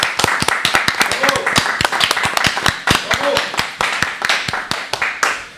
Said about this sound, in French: Oui, et on les applaudit d'ailleurs déjà.